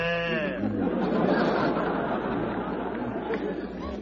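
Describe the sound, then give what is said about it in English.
A man gives a short, low mooing call, imitating a cow, that quickly gives way to a busy wash of crowd chatter and laughter filling the rest of the moment. “He sounds like a top sirloin calling to his mate.”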